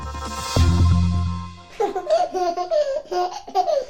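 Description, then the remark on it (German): A baby babbles and laughs in bright, high-pitched bursts of squeals and giggles, fairly loud, following a short low droning sound at the start. “Das ist Fee. Fee heißt eigentlich Felicitas, das Glück. Denn dieses Baby hat das Glück”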